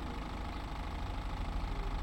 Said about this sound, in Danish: Tidligt om morgenen, lørdag den 20. oktober, cyklede en ung kvinde hjem langs Morbærhaven i Albertslund på den københavnske Vestegn. Hun undrede sig over en taxa, der holdt i tomgang på gaden.